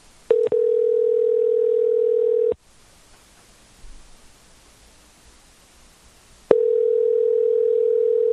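A steady telephone dial tone, heard while placing a phone call, hums loudly, breaks off into a few seconds of quiet hiss and faint line noise, then returns just as strong. No one speaks.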